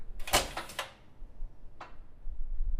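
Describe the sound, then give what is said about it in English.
A heavy old door in the Kresge building swings shut with a solid kerchunk, a quick cluster of thuds and rattles, followed a second later by a single softer knock. “Back then, not just with Kresge being old, but all doors were a lot heavier. And they're like storm doors. And so they would just kerchunk a lot more.”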